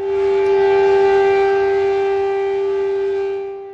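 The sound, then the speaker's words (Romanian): A single memorial siren in Jerusalem marking Holocaust Remembrance Day, as Israelis halt all activity, wails in one long, steady, sustained tone, loud and unbroken for the full few seconds before it starts to fade, with no voices present. “La Ierusalim, israelienii și-au oprit toate activitățile în restimpul în care o sirenă marca ziua amintirii Holocaustului.”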